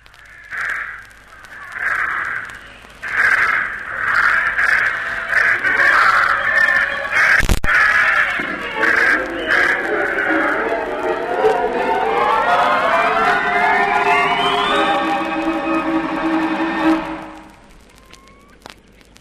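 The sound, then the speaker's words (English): Crows caw harshly, repeatedly and loudly as birds are sent up into the air, a flurry of overlapping calls, followed by a rising whine and rushing noise that swells steadily before cutting off abruptly. “Send those birds up and I'll be off.”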